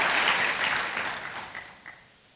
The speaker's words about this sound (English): Shall we all clap for God? Thank you, God.